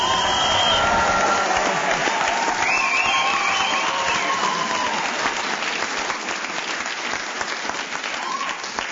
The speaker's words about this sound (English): Yes, that applause was justified.